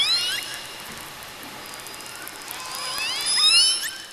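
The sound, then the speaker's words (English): Toothed whale whistles: high, sweeping tonal calls rising and falling over a steady underwater hiss, clustering at the start and again toward the end, several overlapping near the close. “Toothed whales have whistles.”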